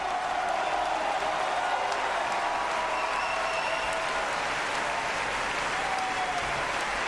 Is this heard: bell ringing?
no